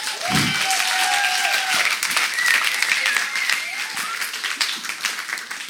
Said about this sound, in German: Und es vergeht eigentlich kein Tag, davon können wir dann echt mal einen Applaus geben.